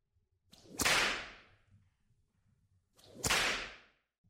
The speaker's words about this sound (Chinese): 鞭子打在你的身上很疼吧？